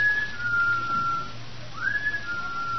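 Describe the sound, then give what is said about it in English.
Someone whistles a thin, steady tune in two long phrases separated by a brief pause, moderately loud over a low constant hum, with no talking. “Well, what could that be? That whistle?”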